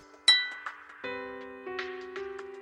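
household object, glasses clinking

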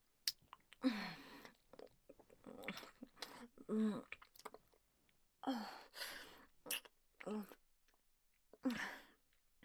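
human body sound, kissing sounds

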